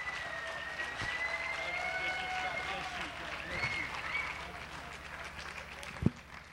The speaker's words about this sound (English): Come on, put your hands together for this young man. Come on, you can do better than that. Stand all over this house and put your feet together. Put your hands together. Give the Lord a hand clap. This is glorious.